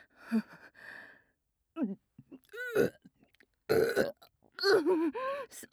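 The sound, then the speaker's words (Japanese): A series of loud burps, about five of them, some long and croaking with a wavering pitch, separated by short pauses, with no talking. “すみません、おならを吸いすぎてしまったようです。”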